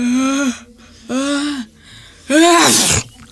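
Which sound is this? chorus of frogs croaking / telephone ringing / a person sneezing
a person sneezing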